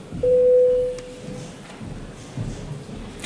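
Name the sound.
parliament voting bell tone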